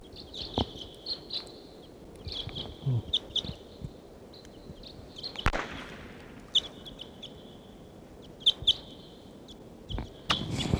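bird calls

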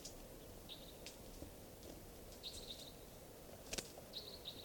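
wild bird singing

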